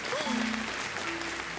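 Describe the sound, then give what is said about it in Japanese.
A short burst of dense applause, many hands clapping in a steady crackling wash for under two seconds, with faint tonal, voice-like sounds briefly rising above it. “本作品について簡単に説明&紹介をしちゃいたいと思います。パチパチパチパチ。”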